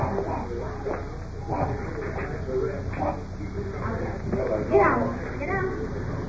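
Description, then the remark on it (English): Two very large Great Dane dogs bark in scattered bursts while blocking a door, moderately loud, with a few whimpering yips mixed in over a busy, muffled background of voices. “Two very large Great Dane dogs blocking the door.”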